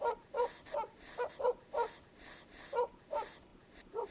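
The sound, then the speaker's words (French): Dogs yelp and whimper in a quick run of about a dozen short, high-pitched cries, spaced unevenly, with no talking. “Elle vit apparaître des serpents sur son corps et des chiens à la place de ses jambes.”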